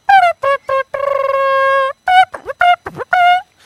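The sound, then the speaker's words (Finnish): A voice imitates a trumpet loudly: a few short brassy toots, one long held note with a slight wobble, then a quick run of blasts and bends. “Trumpetti.”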